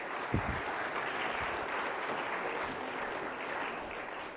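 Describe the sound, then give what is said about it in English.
Sustained applause from a sizable audience, a steady dense wash of clapping that holds at an even level for several seconds before easing slightly at the end. “Round of applause, please.”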